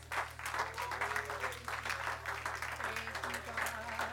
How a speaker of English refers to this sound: Why don't you give the Lord a good hand clap of praise this morning? Thank God.